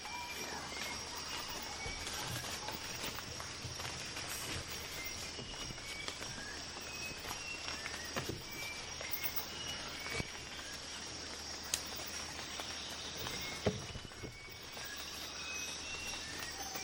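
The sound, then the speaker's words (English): Dense rainforest ambience recorded from a raised platform about a metre above the rainforest floor, with a steady, high insect drone and scattered bird chirps, plus a few soft knocks and rustles. It stays even and constant throughout, with no one talking. “Raised platform to about a metre above the rainforest floor.”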